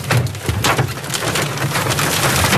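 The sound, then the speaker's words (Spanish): Large hailstones, more than 3 centimetres across, pelt down in a dense, continuous clatter, sharp cracking impacts bouncing off hard surfaces and into water, loud and relentless with no voices. “El granizo grande. ¡Es peligroso!”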